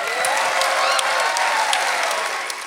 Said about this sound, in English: We're about halfway done with the show, so let's get a round of applause as we get to our break.